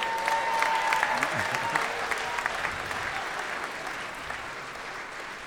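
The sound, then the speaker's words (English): Steady applause from an audience at a Judge John Hodgman courtroom show in Seattle as the judge exits, a dense rush of clapping that holds strong throughout and eases only slightly toward the end, with a faint whistle-like tone early on. “I was feeling better until the applause.”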